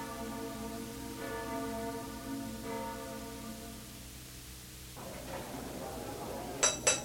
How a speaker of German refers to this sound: Die Glocken läuten schon. Ich muss zur Kirche.